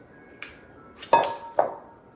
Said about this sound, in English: And then you put in the fat part of the coconut milk. So you just scoop it in. And don't put in the water part.